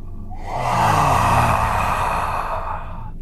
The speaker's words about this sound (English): And there is a gust of warm air that blows through the corridor, disturbing the dust, and the iron smell wafts over everyone.